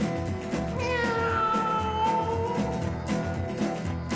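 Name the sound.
tiger growling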